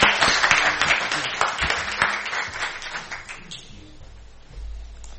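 Audience applause, a dense burst of many hands clapping that starts loud and gradually thins and fades over about four seconds, leaving a low rumble at the end.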